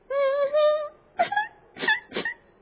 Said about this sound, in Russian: Почему ты плачешь?